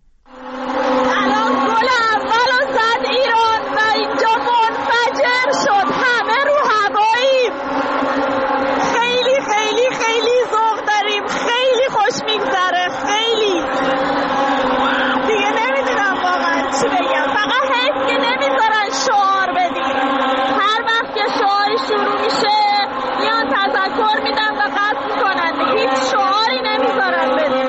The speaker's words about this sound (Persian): این هم باز صدا از داخل استادیوم یکی از خانم ها برای ما فرستاده. ببینیم بعد از اولین گل چه اتفاقی افتاده.